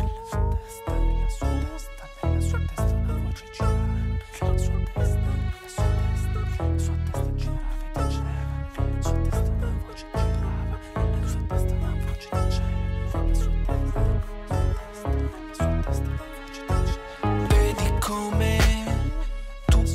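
A music track from an album plays loudly and continuously for the full twenty seconds, driven by a steady, punchy beat under dense layers of sustained tones and chords, with no break in the sound.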